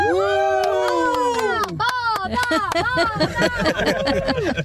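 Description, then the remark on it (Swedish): Several children in a car on the way to go swimming cheer and whoop together loudly, their high overlapping shouts rising and falling continuously for a few seconds, with some scattered clapping in the mix. “Men kan vi inte jubla lite grann tillsammans så man hör att det här är en badbil på väg?”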